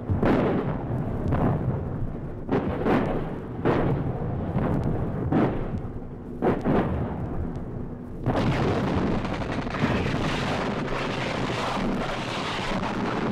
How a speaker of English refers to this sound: Miles forward, our artillery pounds the landing zone. If Charlie's there, waiting, we've got his undivided attention.